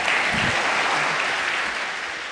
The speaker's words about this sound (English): thank you whoever applauded my wife and my grandchildren. Yes. Look, my children are pretty good too, so you can applaud my whole family.